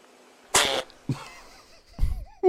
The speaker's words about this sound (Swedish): Att så här, det är gulligt när bebisar nyser. Ah, jag vet inte om jag håller med fullt ut kring det, men den här bebisen har då en nys som jag tycker låter som ett helt annat kroppsljud, om man säger så.